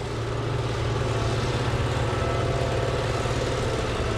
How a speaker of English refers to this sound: On a recent afternoon, trucks haul coal to a colossal storage pile at the Mountaineer Power Plant in New Haven, West Virginia.